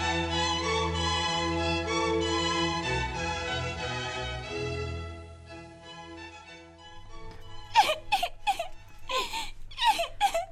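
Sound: child crying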